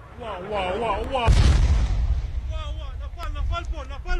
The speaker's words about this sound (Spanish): Y pese a la fuerte defensa antiaérea que tiene aquí el ejército israelí, una de esas bombas iraníes ha impactado aquí en Tel Aviv y este ha sido el momento.